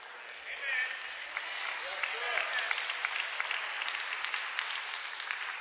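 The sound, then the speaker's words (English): A crowd claps steadily and enthusiastically in hand praise claps, about 20 of them, a dense wash of many hands applauding at once, with a few voices faintly mixed in beneath the sustained clapping. “I think I got 20 hand praise claps right there.”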